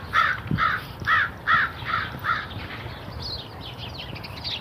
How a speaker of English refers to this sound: Actually, no, I don't think it's Corvus corvus. I think it's just an American crow. I think Corvus corvus is a raven.